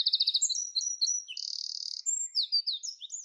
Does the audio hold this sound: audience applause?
no